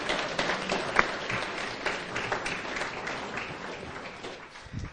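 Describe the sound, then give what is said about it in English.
A sustained round of audience applause for a woman speaker at a group meeting, many hands clapping together in a dense, steady wash that stays fairly even throughout, with no voices standing out. “Can we get another round of applause for her?”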